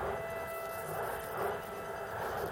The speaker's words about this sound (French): Entends-tu ces trains dans la nuit? Ils emmènent d'autres gens vers d'autres lieux. Tu les entends, Fritz. Moi, je ne veux plus les entendre.